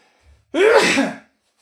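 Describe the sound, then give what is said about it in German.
A single loud sneeze bursts out after a faint breath intake, a sharp explosive blast lasting under a second before silence returns. “Ich muss mal kurz niesen, Moment.”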